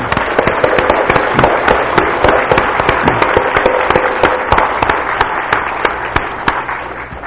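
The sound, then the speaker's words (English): A church audience claps their hands to the Lord in thanksgiving, in sustained, dense applause, with many sharp overlapping claps forming a loud, steady crackle for several seconds. No one speaks over it. “So let's all clap our hands to the Lord.”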